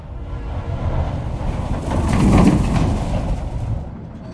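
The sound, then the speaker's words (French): A steady rumbling of a train rolling along rails, continuous, swelling slightly louder midway before easing back, with no voices. “À la gare, nous nous installons dans un wagon où il fait très chaud.”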